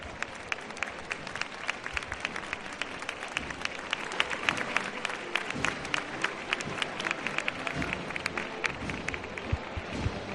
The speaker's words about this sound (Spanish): Y así suena el aplauso.